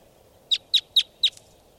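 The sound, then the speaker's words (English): A lone wild bird in flight gives four sharp, high-pitched chirps in a quick, evenly spaced series, standing out clearly over a faint low background hum, with no voices. “So, pointing out the wild bird. In flight. Lone bird.”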